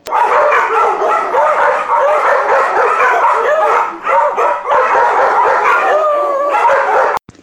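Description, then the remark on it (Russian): A chorus of dogs at a guide-dog training school in Kupavna, Moscow Oblast, Russia, in May 2018 barks, yips and howls together without pause, loud, a dense overlapping racket like a full kennel, with no voices. “Школа по подготовке собак-проводников.”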